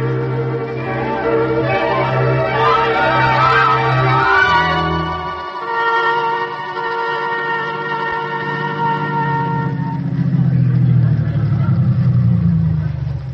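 A car engine hums steadily, then its low drone drops away as the vehicle slows and comes to a stop, leaving a lighter tonal background.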